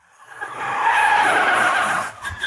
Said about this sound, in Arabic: يا سيارة، لا تنسي أن تكوني حذرة على الطريق. ها هي السيارة الرياضية الحمراء تقود على الطريق مجددا.